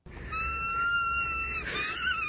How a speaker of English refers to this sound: I've heard people snore like that. Oh, yeah. Like that? Yeah, when you hold their nose.